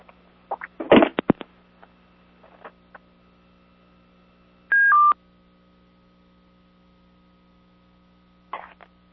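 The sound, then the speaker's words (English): A short burst of cell phone keypad dialing tones as someone calls back in, two quick beeps in a row, set among scattered clicks and handling bumps over a steady low electrical hum. No one speaks. “I'm going to call back in on my cell phone.”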